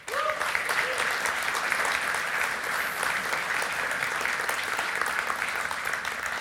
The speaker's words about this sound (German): Ein paar sind von denen da, ich nenne mal nicht ihre Namen, aber ihr dürft immer einen Applaus geben, oder?